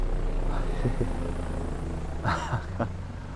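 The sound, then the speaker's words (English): A helicopter drones steadily over there across a bay, its low rotor rumble continuous throughout, with a few brief voice-like sounds rising over it. “A helicopter.”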